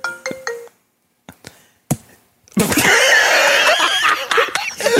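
A brief electronic phone ring sounds at the start as a call comes in and is put on speakerphone, in Florida, followed by a few sharp clicks, then a loud, sustained burst of noisy commotion fills the rest.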